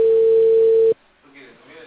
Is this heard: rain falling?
no